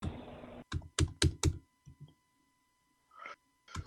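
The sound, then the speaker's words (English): Crisp key presses on a laptop keyboard: a quick burst of several loud clacks, then a pause and a few softer, scattered taps. “That's just his laptop, man. I love the feel of these keys, though.”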